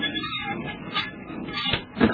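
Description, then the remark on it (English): A door that has no lock is pushed shut, with scraping and rattling leading up to a firmer thump near the end. The sounds are moderately loud and have no talking over them. “Wait till I get this door closed.”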